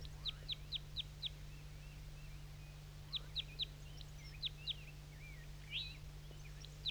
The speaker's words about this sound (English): So recording the crossbill again.